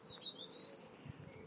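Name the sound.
birds singing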